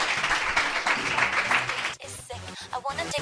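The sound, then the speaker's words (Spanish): A crowd applauds steadily for about two seconds, a dense wash of clapping, then it fades out and a voice begins talking over scattered, fading claps. “muchas gracias por estar aquí con nosotros y un fuerte aplauso para ellos.”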